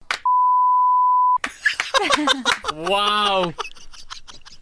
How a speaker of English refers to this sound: That's getting bleeped out